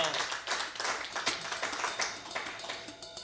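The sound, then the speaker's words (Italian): A crowd applauds steadily, a dense wash of many overlapping hand claps at a fairly even level with a few sharper claps standing out, no voices heard. “Che dire, un applauso”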